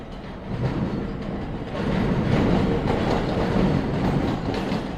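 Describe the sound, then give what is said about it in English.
A BQ subway train rumbles along uncovered outdoor tracks right behind an apartment building, with a steady roar and clattering wheels that swell louder partway through and stay heavy to the end. No voices. “I stood in the living room looking at the stacks of boxes and listened to the sounds of the BQ train, which ran, uncovered, right behind our apartment building.”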